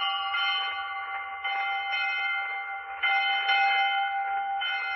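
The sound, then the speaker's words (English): A school bell rings loudly and continuously on the Quiz Kids show, calling class to order, a steady metallic jangle with slight pulses in intensity, sounding alone without any voices. “Well, that bell calls class to order, Quiz Kids, and here's your first question.”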